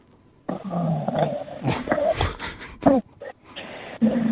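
A sleeping partner snoring, heard over a phone call, with harsh, rattling, growl-like breaths, loud and rough, rising and falling in several uneven bursts over a few seconds with a short lull near the end.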